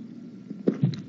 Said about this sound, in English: Excuse me, just give me a sip of water.